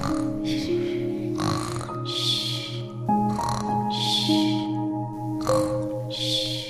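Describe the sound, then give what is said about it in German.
Soft, rhythmic snoring of a little witch: a string of breathy, rasping snores at a steady, unhurried pace, layered over a low, sustained tonal drone. “Schon nach wenigen Sekunden hörst du die kleine Hexe leise vor sich hin schnarchen.”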